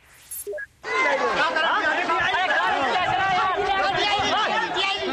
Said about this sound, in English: Asia has been sky-gazing today. Parts of the continent had a prime view of the longest total solar eclipse of the century. And you can hear the excitement as the crowds gather.